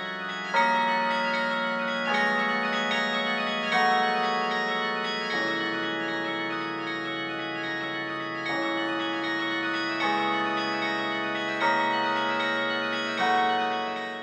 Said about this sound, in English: making what is perhaps the ultimate musical public art, connecting with tradition, with these massive bells, and with the world on the ground. A carillonneur never knows who might be listening, whether they plan to or not.